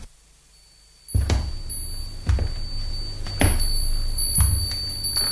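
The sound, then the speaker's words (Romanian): Crystal wind chimes, set ringing by a gentle breeze, sound after a moment of silence, struck about once a second, each strike a soft thud followed by bright, sustained high tones that linger and overlap. “Numai dulcea adierea aerului îi face să sune pe acești clopoței de cristal.”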